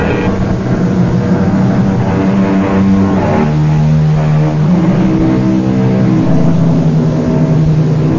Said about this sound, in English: It is almost midnight. The highway is deserted. Off in the distance, we hear the keening of a finely tuned sports car. It grows louder as the car approaches.